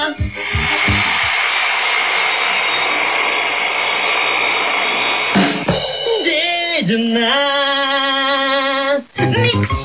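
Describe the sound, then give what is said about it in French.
A power drill runs loud, first a steady harsh whirr, then a high whining motor tone that dips and climbs as the speed changes, cutting off near the end; presented as a track on a joke compilation from the Bazar de l'Hôtel de Ville store. “Retrouvez les plus grands titres du bazar de l'hôtel de ville avec l'inévitable perceuse.”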